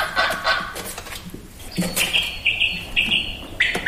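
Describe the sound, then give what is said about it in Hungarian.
A quail calls in a series of high, clear whistled notes repeating in a quick rhythm, loud, preceded by a few rougher chirps and rustling noises. “Ez a fűri. Így van.”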